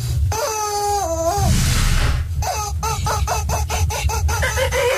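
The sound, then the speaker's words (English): A rubber chicken toy bought at Tractor Supply for Nelson the donkey lets out one long, drawn-out squawking wail, then a quick run of short, honking squeaks in a steady rhythm, loud over a low background rumble. “oh, it's a known fact that donkeys like rubber chickens?”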